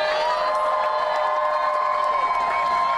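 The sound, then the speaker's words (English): A crowd cheers and applauds steadily for the Starbucks workers, with high whoops and shouting voices riding over a dense wash of clapping. The sound stays loud and sustained throughout. “Just before we take a question, since I know we have some friends here with us, if we can first have a round of applause for the Starbucks workers themselves.”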